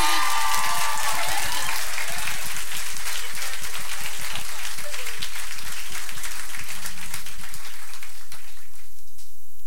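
A crowd breaks into loud, sustained applause after a musician's solo, dense clapping that fills the space for several seconds before gradually thinning out and fading near the end.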